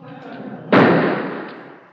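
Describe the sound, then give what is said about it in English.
A single sharp gunshot cracks out suddenly and loudly, followed by a long echoing decay that fades over a second, with a low murmur of background noise before it. “Gunshots must be murder.”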